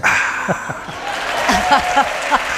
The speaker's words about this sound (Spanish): ¡Ovación! ¡Ovación al manchego! Por favor.